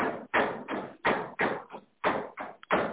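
A man hammers some pieces into holes. The hammer taps about nine fairly even blows in quick succession, moderately loud, with no one talking.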